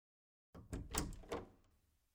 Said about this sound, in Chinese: 直到听到敲门声，啊，才猛地惊醒，可是脑子都还没有清醒了，就穿着这一身就跑出去打开门。